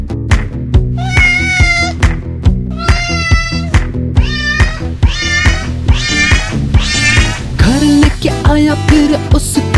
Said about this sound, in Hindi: म्याऊ म्याऊ करके बुलाया मुझे। बिल्ली का बच्चा